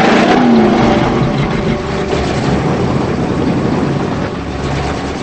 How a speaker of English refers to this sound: As she struggles to sit up, the blue car backs away.